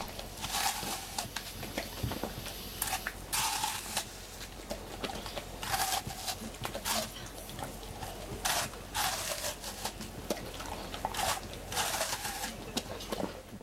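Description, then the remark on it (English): A puppy crunches on an apple, with wet, crackling bites and chews repeating every second or so in an irregular rhythm. The crunching is steady and fairly loud, with no one talking. “Anyway, all this raises the question, do puppies like apples?”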